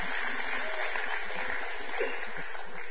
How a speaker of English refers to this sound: All right. Tithes and offerings. Y'all clap your hands for tithes and offerings. Here we go.